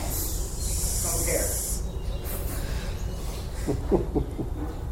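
An audience hisses in a sustained, sharp burst for about two seconds, then scattered fainter hisses trail off while low murmuring voices rise briefly near the end.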